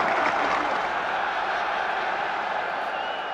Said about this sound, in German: Manfred Schnelldorfer beendet seine Kür. Und Beifall für Manfred. Vielleicht ahnen es die 10.000, dass er jetzt gewonnen haben kann.